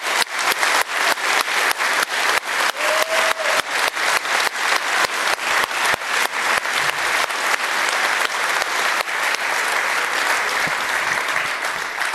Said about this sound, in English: Huge thank you for everyone being here. And I think a big round of applause before we go and start.